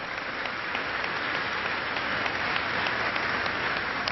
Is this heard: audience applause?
yes